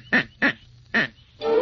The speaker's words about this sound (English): The duck.